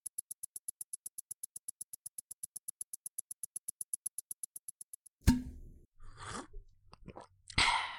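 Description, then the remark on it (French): A quick run of rhythmic, evenly spaced clicks like a bottle cap being twisted, then wet sipping and swallowing sounds as someone takes a sip of water from a water bottle. “Prends ta gourde et bois une gorgée.”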